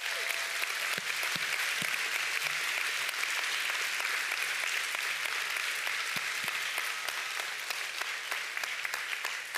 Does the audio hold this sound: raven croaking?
no